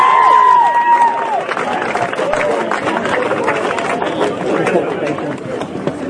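An audience applauds loudly and steadily for several seconds, dense clapping mixed with crowd noise, and a brief high whistling tone at the start.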